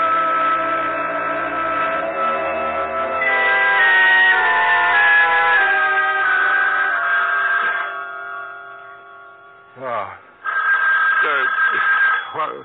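A telephone bell rings steadily and fairly loud with a call from a sanitarium, mixed in with sustained tonal music, then briefly dips before ringing on again toward the end.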